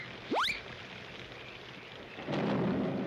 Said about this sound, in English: Pretty nice, eh, Barney? Storming outside, we're here dry as a bone.